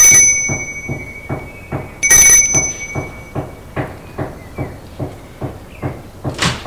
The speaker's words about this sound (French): Sonne à la porte.